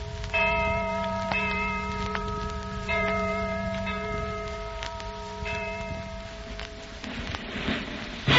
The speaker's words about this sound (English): What is that distant bell? That, my friend, is the Liberty Bell. The people have heard that we are signing the Declaration of Independence. They are beginning their celebration.